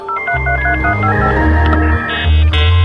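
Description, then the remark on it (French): A 1990s-style dial-up modem connecting, used as the intro of the France Musique segment Musique Connectée: a loud run of steady electronic dialing tones that step between pitches, giving way to a shrill, high handshake tone near the end, with no voices. “Musique Connectée et son petit modem qui fleure bon les années 90.”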